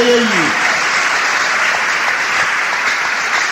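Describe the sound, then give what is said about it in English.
A large crowd claps with both hands in praise to God, a loud, dense and steady wash of applause that carries on without pause, with a brief voice sounding faintly at the very start. “Each time you clap, you're telling God, I will cooperate with you.”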